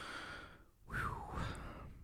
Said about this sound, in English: I'm like breathing heavy now.